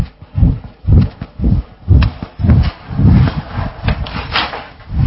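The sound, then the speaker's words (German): A steady series of dull footsteps walks across the floor, mixed with a few soft knocks and bumps as a door is handled and pushed shut. No one speaks. “Ich mache das noch kurz die Tür zu.”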